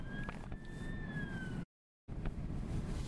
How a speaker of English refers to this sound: I'm going to have to pause this because there's a police car coming.